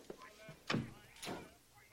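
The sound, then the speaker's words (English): In a film scene, Harris closes a door: it swings shut with a dull, heavy thud, followed about half a second later by a second, lighter knock as it settles into the frame. “He closes the door.”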